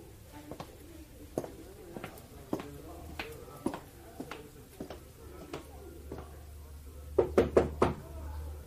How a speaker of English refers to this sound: No need to stand knocking, my dear. Come in.